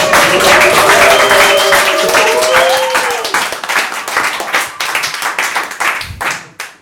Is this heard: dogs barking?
no